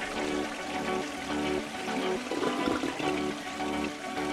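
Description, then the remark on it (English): A toilet flushes as a Friday sound effect on The Keep Craddock Morning Show, a loud, steady rush of swirling water that lasts several seconds without tapering off, with a faint musical bed running underneath. “It's time to flush the format.”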